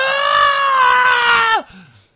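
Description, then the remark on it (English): A single voice holds a loud, high-pitched scream, mimicking a shrieking crowd, for about a second and a half before it drops off sharply into quiet. “They have been conditioned to erupt into hysterical screaming.”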